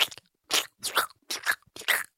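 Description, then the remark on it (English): A voice imitates the squishy, wet-shoe noise Kevin makes with each step in a deleted scene of The Office, making about five short, moist squelching bursts in a steady walking rhythm, with brief silences between them. “Like water, like squishy water in your shoes.”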